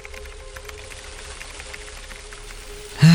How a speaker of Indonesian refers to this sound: Namun hujan rintik masih juga belum reda dari pukul 5 sore.